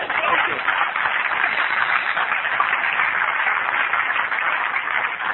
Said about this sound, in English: I understand what we're applauding there, and it feels good to applaud that it does work. You know, you keep coming back, it does work.